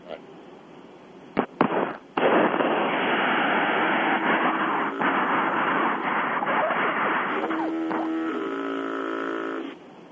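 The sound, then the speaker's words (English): A truck horn blares like a deep foghorn, a long, loud tonal blast over a heavy roar, preceded by a few sharp clicks and knocks, recorded by a woman driving on Interstate 5 near Tulare. “I heard what sounded like a foghorn, yeah. Yeah, this is the harassment from these truckers.”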